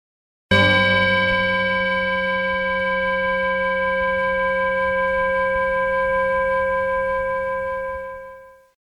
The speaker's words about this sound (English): And I'm going to ring the bell, but don't end your practice.